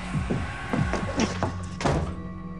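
A woman slams a door shut with a heavy, dull thud, surrounded by a quick series of similar knocking impacts over a couple of seconds, fairly loud and with no one talking.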